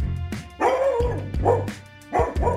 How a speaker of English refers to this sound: And then a dog jolts into the frame or jumps up from somewhere you didn't notice he was lying. He starts barking.